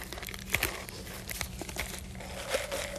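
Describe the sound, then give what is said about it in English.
Material is crumpled and crinkled to imitate rain, in a steady stream of fine crackles and small pops, making a soft, continuous patter like rain. No voices, and the level stays fairly even throughout. “Let's make that rain too.”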